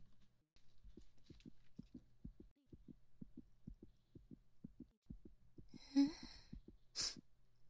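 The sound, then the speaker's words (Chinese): Fast, steady heartbeat heard through a stethoscope, low muffled thumps over a faint hum, with a brief rustle and a soft breathy burst near the end. “哎呀，你心跳怎么跳得这么快啊？怎么搞的？一般人的心跳不要这么快跳。”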